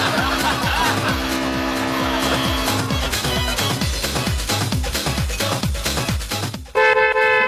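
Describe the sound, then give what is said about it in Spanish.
A car passes by on the street outside a radio station with a loud, rough engine roar and some tire noise, followed at the end by a short, bright horn-like tone. “Ahí pasando... Es un auto ese.”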